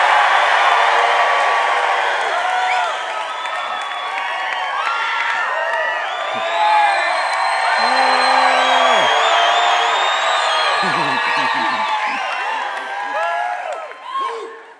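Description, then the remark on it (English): Audience members over 30 cheer and whoop loudly and continuously on cue, with many overlapping high-pitched yells and shouts sustained for about fifteen seconds before easing slightly at the end. “If you're over 30, under three, let's start cheering in a minute.”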